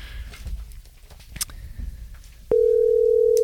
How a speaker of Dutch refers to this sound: Kijk, daar hoor ik een telefoontje overgaan.